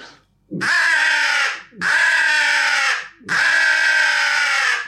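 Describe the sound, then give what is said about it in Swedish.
Three long, harsh caws blown on a crow decoy call (the pro call) imitating a crow, loud, each lasting about a second with short pauses between them and no talking. “Alltså fan, det låter ju som en kråka.”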